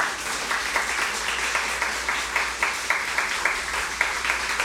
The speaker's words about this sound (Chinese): 可唔可以俾肖长声鼓励下我？唔好咁孤寒啊，拍大声啲啊！